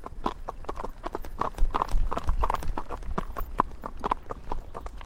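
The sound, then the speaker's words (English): Horse hooves clip-clopping on a hard tar road, a steady walking rhythm of sharp, bright knocks repeating about three times a second, with a low rumble underneath. “That's how I know whether I'm going on and off a road, whether I'm on sand, whether I'm on grass. We can go back onto the tar.”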